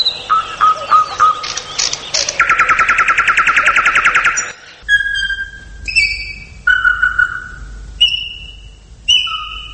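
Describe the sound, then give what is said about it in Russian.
A loud bird sings alone, opening with rapid chattering trills and a long buzzy run, then shifting to clear, separate whistled phrases with short pauses between them. “песня – это прежде всего защита гнездового участка, и все.”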